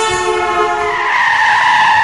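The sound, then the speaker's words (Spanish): A car brakes hard and nearly hits a child who crossed the street without looking: a sustained, high-pitched screech of tires skidding, loud, with a harmonic squeal that shifts in pitch for about two seconds. “Un niño cambió de acera sin mirar y casi le pilla un coche.”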